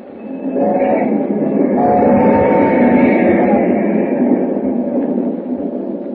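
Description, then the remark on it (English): A train roars steadily along the tracks into the night, a loud, continuous rumble with rattling and clattering that builds in the first second and holds strong throughout. “As the train roars into the night, he and Hu Ling talk softly.”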